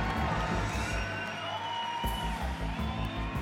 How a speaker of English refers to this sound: The crowd shouted its approval.